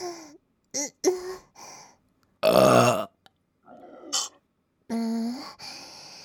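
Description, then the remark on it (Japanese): A string of about seven loud burps in irregular succession, some short and sharp, others drawn-out and gravelly, separated by brief silences, after a person has drunk a full mug of semen as a challenge. “やっべ、ゲップ止まんね。”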